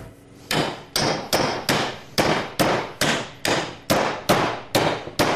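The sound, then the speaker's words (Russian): A hammer strikes a fish repeatedly, about eleven sharp, loud blows in a steady rhythm, each a crisp impact with a short ringing decay, with no talking. “Берем молоток.”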